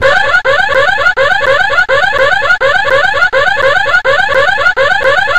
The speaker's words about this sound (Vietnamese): Đúng lúc đó, tiếng chuông báo động vang lên, và đó là thứ âm thanh to nhất mà Tracy từng nghe thấy. Nó như dồn dập vang lên từ mọi góc phòng đến xé cả tai.